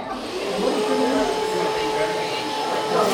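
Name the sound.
hair dryer running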